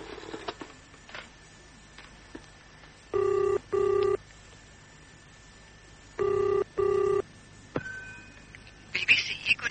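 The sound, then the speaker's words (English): A telephone rings on the line, heard through the earpiece as two double-burst ring tones with a pause between, thin and filtered, followed by clicks as the call connects. “Can I use your phone first?”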